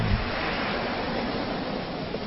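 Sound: audience applause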